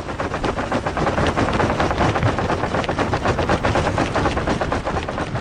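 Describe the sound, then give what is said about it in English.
Sea ice at the North Pole, only a few feet thick, cracking apart, recorded by Andrew Revkin in 2003: a loud, unbroken stream of rapid sharp cracks and crackles over a deep grinding rumble, steady like a passing train, with no voices. “It kind of sounds like a train there, and that's cracking apart.”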